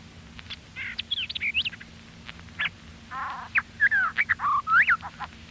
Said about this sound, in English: White-eyed vireo.